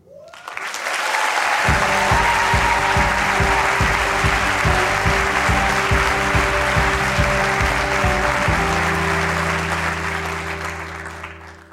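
An audience at the Snap Judgment live storytelling stage applauds loudly and steadily for about ten seconds as a 15-year-old storyteller is introduced, while rhythmic, low-pitched music plays beneath the clapping, both tapering off at the end.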